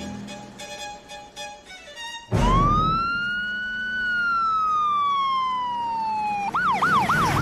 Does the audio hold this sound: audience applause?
no